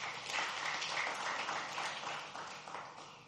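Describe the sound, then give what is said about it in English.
An audience applauds the worship team steadily, many hands clapping at once in a dense, continuous patter that holds for a few seconds at moderate volume without any voices. “Let's give another big hand clap to the worship team.”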